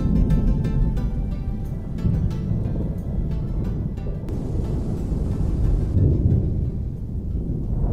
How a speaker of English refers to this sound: There's a dark thunderstorm in the air, and the wind is rising as we leave the gate of Villa Kellermann together.